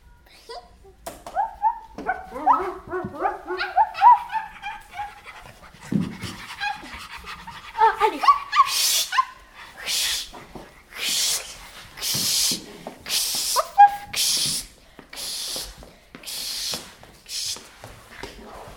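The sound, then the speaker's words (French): Three puppies whimper with high, wavering cries at first, then pant in quick, breathy bursts that repeat steadily, with no one speaking. “Est-ce que vous voulez ces trois petits chiens?”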